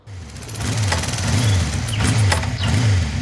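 A Harley Davidson motorbike engine revs repeatedly, its deep throaty rumble rising and falling in three surging bursts with a rattling mechanical edge, no voices present.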